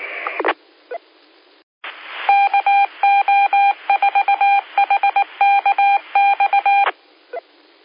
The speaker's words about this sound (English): Station calling in CW, this is, you know, after phone, whiskey, tonight.